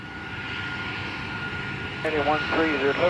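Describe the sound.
A steady, loud jet engine roar of a passenger airliner, Flight 9525, taking off from Barcelona at 10:01 local time with 144 passengers aboard, holding constant throughout, with a person's voice starting over it near the end.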